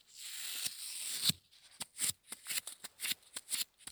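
Paper-type gummed tape with weak adhesive being dabbed on clothing: a steady papery rasp, then about eight quick crackling pats and peels in an uneven rhythm, with no talking.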